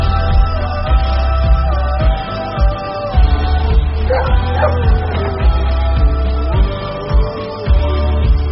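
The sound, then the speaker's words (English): A dog barks and yips in short, excited bursts, repeating several times over a steady low background, with a sharper high-pitched cluster of yelps near the middle. “The dog's laughing at you.”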